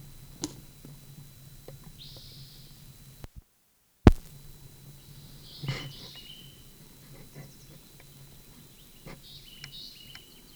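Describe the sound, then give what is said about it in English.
A few short, high-pitched bird chirps from a bird near the dump sound faintly and sporadically over a low, steady background rumble, with a brief dropout and a couple of soft knocks. “Bird near the dump.”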